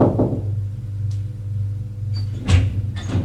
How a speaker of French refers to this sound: Frappe à la porte.